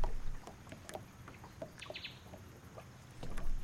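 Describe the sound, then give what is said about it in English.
Native birds chirp and call in short, scattered bursts among mangroves, over a low, steady outdoor rumble, with a brief sweeping whistle partway through and no voices. “Hear the sounds of native birds playing among the mangroves.”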